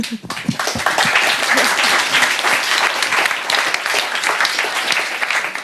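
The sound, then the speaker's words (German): An audience breaks into a second round of sustained applause, many hands clapping in a dense, steady wash that stays loud and even for several seconds with no voices on top. “So, jetzt nochmal, zweiter Applaus.”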